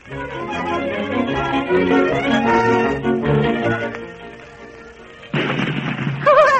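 Orchestral music plays for several seconds, then loud cannon fire bursts in near the end, heavy booms that crowd over the music with a rough, rumbling blast.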